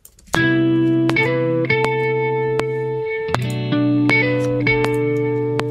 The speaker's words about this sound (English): Let's see what other guitars we have in this pack. That sounds cool. It's a little bit high pitched, but we can work with it. And this will be our second guitar.